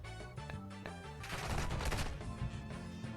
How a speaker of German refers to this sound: Jetzt explodiert eine Granate, oder?